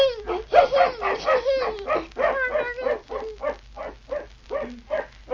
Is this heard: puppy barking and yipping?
yes